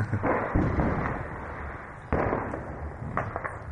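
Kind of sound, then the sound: impact, firecrackers bursting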